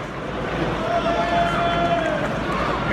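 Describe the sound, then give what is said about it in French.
A steady, subdued murmur of a large stadium crowd at the Parc des Princes in the evening, recorded by a PSG supporter, with indistinct chatter but no chanting, singing or shouting, and a faint thin whistle-like tone drifting briefly through the middle. “Eh bien, voici la vraie ambiance postée par un supporter du PSG sur Twitter hier soir.”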